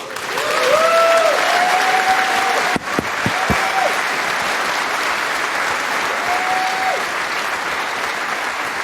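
A crowd applauds a speaker after a conference talk on ransomware, steadily for several seconds, a dense wash of clapping that stays loud throughout, with a few brief whoops or whistles rising above it and a couple of sharp knocks partway through.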